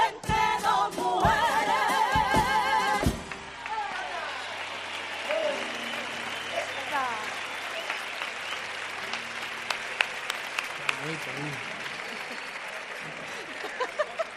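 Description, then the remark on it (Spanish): An audience bursts into loud, sustained applause for a girl from Rota after she sings, a few sharp opening claps settling into a steady roar of dense clapping with scattered individual claps and cheers standing out. “Un aplauso grande para la niña de Rota.”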